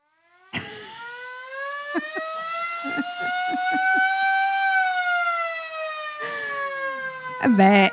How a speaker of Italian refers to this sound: insomma, volevamo sentirlo. Potremmo fare un festival solo su quello, il festival della sirena.